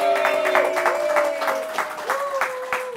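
An audience breaks into steady, dense applause, many hands clapping at once for a few seconds at a moderately loud level, with a faint sustained tone running underneath.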